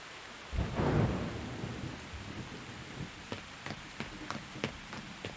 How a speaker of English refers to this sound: Shit, you're soaked and trembling. Come on. Let's get you out of this rain.